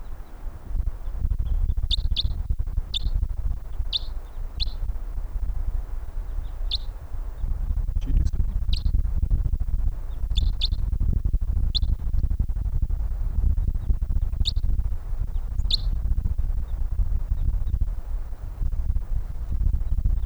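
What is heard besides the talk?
wild birds calling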